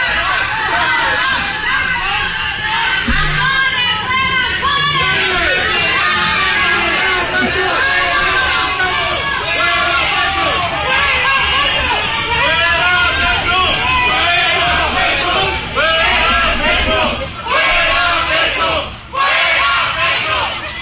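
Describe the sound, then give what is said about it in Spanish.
A large crowd in a shop in Bogotá shouts and jeers at Ecopetrol president Ricardo Roa while he is grocery shopping, a continuous, loud roar of overlapping angry voices with occasional sharper yells rising above the din. “Ricardo Roa, en una tienda de Bogotá, pero impresionante la bulla, la gritería. Es que la gente está ofendida.”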